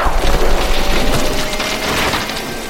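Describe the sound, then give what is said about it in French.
A large pine tree being cut down cracks and splinters as it comes down, a loud, dense wash of crackling wood over a deep rumbling low end that lingers and slowly eases off. “Le grand pin sur lequel se trouvait la chouette était désormais à terre.”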